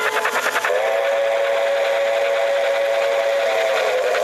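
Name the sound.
steam train whistle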